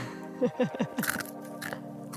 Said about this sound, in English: Crunchy chickpeas. Oh, crunchy chickpeas.